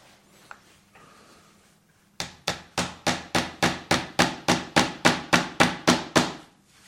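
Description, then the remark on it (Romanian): A sharp-pointed nail is hammered with a phone screen: about fifteen sharp, evenly spaced knocks in quick succession, steady and fairly loud, after a couple of seconds of quiet background hum. “Vreau doar să văd dacă reușesc să înfig acest cui cu ecranul telefonului, fără să sparg ecranul.”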